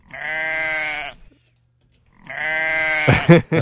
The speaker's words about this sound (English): otherwise I wouldn't have remembered that we could have just played the sheep noise.